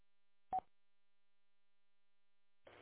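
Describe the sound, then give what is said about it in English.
A plugged-in phone on a bench gives a single short electronic buzz near the start, then a few seconds of near-silence before a rougher, scratchy burst of sound begins at the very end. “The phone's plugged in, buzzing on my bench.”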